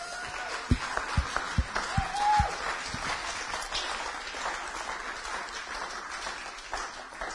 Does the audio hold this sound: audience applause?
yes